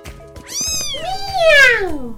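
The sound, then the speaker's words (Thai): Two drawn-out, high-pitched cat meows in quick succession, the second longer with a rising then falling whine, close and fairly loud, with a faint murmur of background sound underneath. “เมี้ยว”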